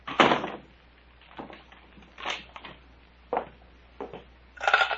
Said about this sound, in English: And, Doctor, lock the cabin door.